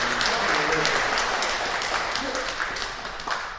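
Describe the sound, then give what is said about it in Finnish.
A church audience breaks into steady, sustained applause for Jesus, a dense wash of many hands clapping at an even loudness, with faint voices and cheers mixed in underneath. “Annetaan myös aplodittekin.”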